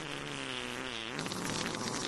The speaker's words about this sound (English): Where's the fart sounds? We need the fart sounds for Asshole of the Week